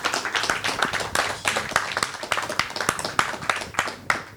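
Steady applause from a crowd fills the whole stretch, a dense patter of many hands clapping at once, bright and even, with a few louder individual claps standing out.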